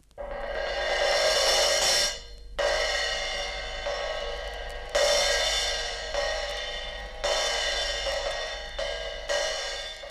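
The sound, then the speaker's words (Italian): Cymbals crash five times at roughly two-second intervals, each loud, bright hit shimmering and ringing out before the next strike, with no voices. “Piatti,”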